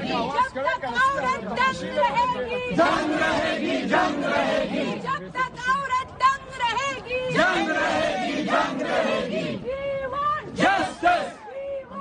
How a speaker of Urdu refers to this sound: ایک روز قبل اسلامیہ college university کے طالبات نے ان کو ہراسا کرنے کا الزام لگاتی ہوئے انتظامیہ کے دفاتر کے سامنے ایک پرامن مظاہرہ کیا اور انہیں جنسی طور پر ہراساں کرنے کی واقعات کے خلاف نعرے لگوائے.